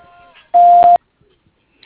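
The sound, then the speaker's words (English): A single loud, steady electronic beep at a fixed mid pitch, lasting about half a second, the tone of the A Better Sign voicemail box, preceded by faint trailing speech and followed by quiet. “At the tone, please leave your name, phone number, and a brief message.”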